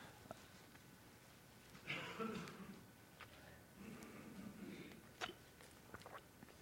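Quiet sipping of water by a speaker pausing during a Bible teaching: a couple of soft slurping gulps and swallows with faint mouth clicks, set against low room noise and no talking.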